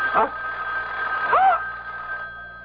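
telephone bell ringing

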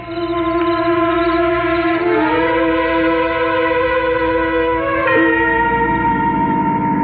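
dinner bell ringing

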